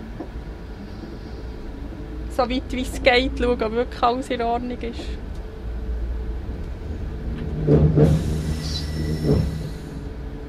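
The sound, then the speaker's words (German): A passenger train pulls away after the doors close and the driver releases the brakes: a steady low rumble with a rising hiss and mechanical groan near the end. A person talks briefly over it early on. “Jetzt kann ich Bremsen lösen und kann ich abfahren.”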